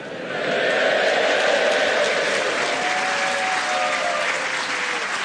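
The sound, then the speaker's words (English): A large crowd at the Albert Hall, gathered for the Christmas finals of the British Empire Mornington Crescent Tournament, applauds steadily, a dense wash of clapping that swells in after a brief moment and holds at a loud, even level with faint cheering underneath. “We are at the newly built Albert Hall, and on this day, the crowds are gathered for the Christmas finals of the British Empire Mornington Crescent Tournament.”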